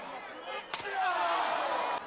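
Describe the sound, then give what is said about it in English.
One sharp, hard slap cracks out early on, loud, over a continuous roar of crowd noise that swells afterward: Triple H slapping The Rock right in the face. “Right in the face, The Rock got slapped.”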